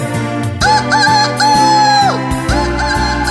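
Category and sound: animal, rooster crowing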